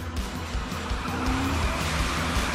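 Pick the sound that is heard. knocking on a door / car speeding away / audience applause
car speeding away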